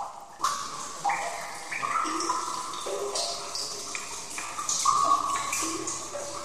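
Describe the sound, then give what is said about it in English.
Water gushes steadily from a brewery valve in Plzeň after an abrupt start, a continuous rushing splash with shifting pitch as the flow changes, heard alone without any talking. The very soft water is used for brewing the beer. “So we are now in the bottom of our valves, and we use this water from our valves for the brewing of all beer which we produce here in the Plzeň.”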